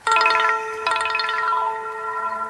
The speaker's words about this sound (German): Das ist jetzt also, wie man hören könnte, ein Klingelton gewesen. Ne? Das ist so ein typischer Trigger, den jeder von uns kennt im Alltag.